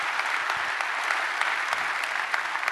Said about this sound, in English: By applause, would you welcome everybody who's joining us right now? Great to have you with us. Thank you.